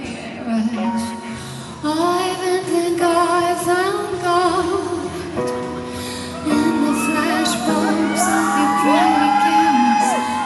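A large concert crowd at a beach show, many in tears, whoops and screams nonstop, many overlapping voices in loud rising and falling cries. The noise swells sharply about two seconds in and stays intense.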